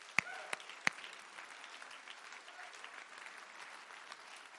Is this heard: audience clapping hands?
yes